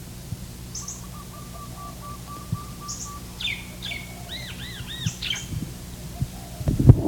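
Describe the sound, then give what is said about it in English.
A barred dove gives soft, rapid trilled coos, while other birds, including a red Kentucky cardinal, add sharp, higher chirps and whistles over a low, steady background rumble. “There's also barred doves.”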